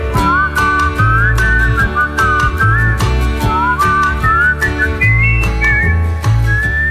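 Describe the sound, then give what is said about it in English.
The singer whistles a bright, melodic tune over a steady band accompaniment with bass and percussion, the whistling clear and prominent through the closing bars of a song that charted in 1966. “Well, there he goes, whistling off to the background there,”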